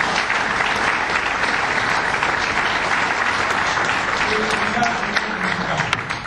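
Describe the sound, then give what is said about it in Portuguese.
A crowd applauds a duo of musicians steadily for about six seconds, a dense, even wash of many hands clapping at constant loudness that tapers slightly at the end. “E um aplauso para elas, mais uma vez.”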